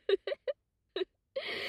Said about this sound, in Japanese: しかも泣いてるし。